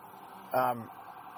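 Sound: ambulance siren passing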